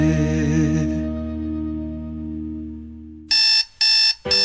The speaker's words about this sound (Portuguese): Sempre que o despertador toca, um novo dia se inicia.